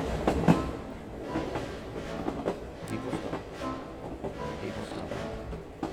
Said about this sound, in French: Les rythmes du train, la moelle chemin de fer des psychiatres américains, le bruit des portes, des voix, des essieux grinçant sur les rails congelés